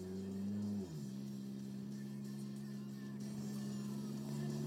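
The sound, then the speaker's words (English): A car engine hums steadily through a muffler, a low droning tone that dips in pitch about a second in, then holds evenly for the rest. “That humming is the car. Yeah, sorry about that, guys. It's a muffler.”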